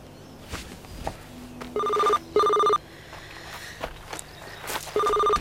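A mobile phone rings in three short electronic bursts of two steady tones, spaced out over a few seconds, while footsteps shuffle along underneath as people walk to a car. No one speaks.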